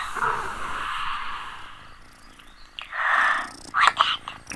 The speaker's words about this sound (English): That's purring. Oh, little kitty cat.